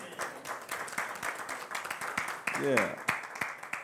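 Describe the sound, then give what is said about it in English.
An audience claps their hands together, a dense, steady patter of many overlapping claps, with a voice rising in a brief whoop partway through. “Give God a hand clap.”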